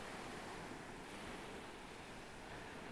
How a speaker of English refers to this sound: The sea is marvellous and it is merciless, particularly when it combines with the worst of the weather. It roars and it breaks. It smashes into coastlines and explodes against obstacles. It surges and subsides, pulls and pummels,